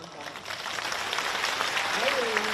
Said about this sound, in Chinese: 你看他鼓掌了，看见了吗？